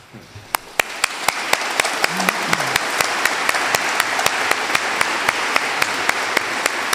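Applause with sharp, evenly spaced claps ringing out steadily over a dense wash of clapping noise, loud, continuing for several seconds without a break.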